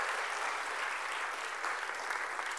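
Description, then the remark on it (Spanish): A church audience applauds the Lord after a sermon, steadily, a dense, continuous wash of many hands clapping at a fairly even loudness throughout, with no voices standing out above it. “Si usted ha recibido la enseñanza, dale un aplauso al Señor.”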